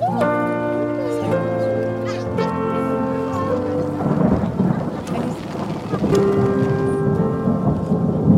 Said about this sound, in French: Donc arrivé sous l'orage